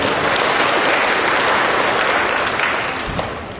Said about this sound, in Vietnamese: Cho một tràng pháo tay thưa anh chị em.